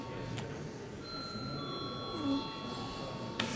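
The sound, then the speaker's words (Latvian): A parliament chamber bell rings steadily for several seconds before a vote, a thin sustained electric tone over the low murmur and shuffling of a large hall. “Lūdzu zvanu.”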